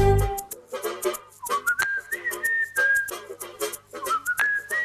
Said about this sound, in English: Ouais, siffle.